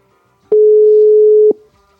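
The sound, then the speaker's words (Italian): A single steady ringback tone from a phone line on an outgoing call, one flat electronic beep lasting about a second, heard clearly on its own with quiet before and after. “E io chiamerei già subito per sapere chi è e cosa fa, perché sono curiosa di sentire cosa hanno da raccontarci. Ecco che squilla.”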